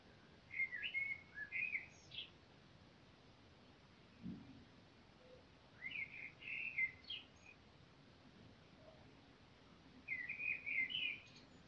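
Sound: birds singing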